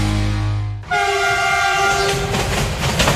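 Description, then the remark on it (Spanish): A loud train horn sounds one sustained chord over the heavy rumble and clatter of a passing train, which carries on after the horn cuts off. No voices. “Dicen que hay trenes que solo pasan una vez en la vida.”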